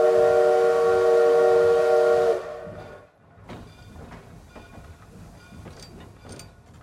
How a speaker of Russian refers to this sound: На четвертый путь прибывает фирменный поезд 110-й скорость Санкт-Петербург-Астрахань. Будьте внимательны и осторожны.